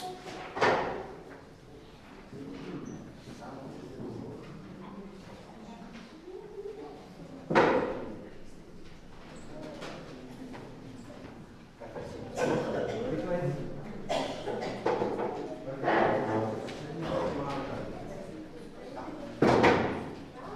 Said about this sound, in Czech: A sami pozvědám dvě židle a takhle jste z druhé strany.